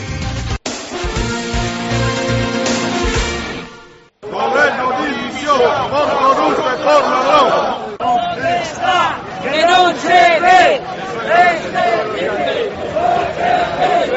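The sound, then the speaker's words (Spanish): A brief tonal jingle gives way to a rally of protesting Navantia shipyard workers from Fene and Ferrol and auxiliary industry employees, demanding workload and construction of a floating dock, loudly shouting and chanting in rhythmic bursts of many voices together. “Estos que escuchan son los trabajadores de Navantia, Fene y Ferrol, además de empleados de la industria auxiliar, que han trasladado esta mañana sus protestas en demanda de carga de trabajo y la construcción del dique flotante”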